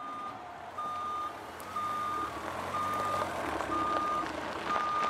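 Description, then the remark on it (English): A big green dump truck's reverse alarm beeps steadily, five evenly spaced tones about once a second, over a low engine rumble. No one speaks. “It's a big, green dump truck.”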